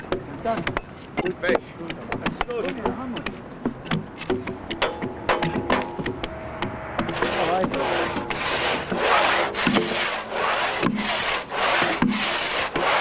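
A hand saw rips lengthwise through a nearly fully sawn log on a sawhorse, cutting it into planks, the log bound tight with a chain and large wedges, in steady, rasping back-and-forth strokes, loud, after several seconds of clattering wooden knocks and handling noises.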